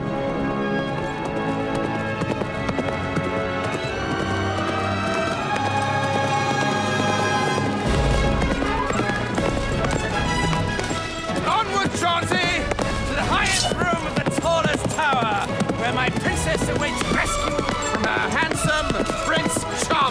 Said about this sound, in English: The clap of hooves is heard as a handsome blonde prince dressed in a blue tunic appears, sword in hand, riding a horse through the trees.